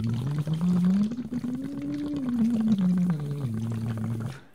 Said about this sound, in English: It's basically like a plastic water bottle with a straw attached to it. And you sing into the straw and you're blowing air through the straw and you're kind of making bubbles in the bottom and you're doing scales.